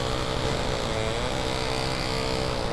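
Chainsaws run with a steady, loud, buzzing engine drone that holds at an even level for the whole stretch, a rough, dense whine with no pauses and no voices.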